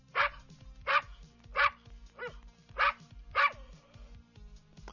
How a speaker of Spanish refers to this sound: Ok, Google, ¿cómo hace un perro? Este es un perro de raza Border Collie.